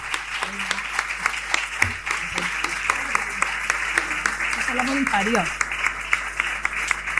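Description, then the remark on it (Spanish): An audience applauds steadily for three girls in black T-shirts who are standing, a dense wash of many hands clapping at even loudness throughout, with a few brief voices faintly audible underneath. “Y les pido un aplauso y luego te das ellas.”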